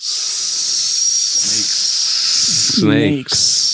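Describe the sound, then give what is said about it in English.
A person makes a long, loud hissing sound imitating a snake, a steady breathy sibilance sustained for several seconds, briefly interrupted by a short vocal sound near the end. “Snakes. Gotta love that stuff. How would we know? What sign do they give? I just did it. They hiss.”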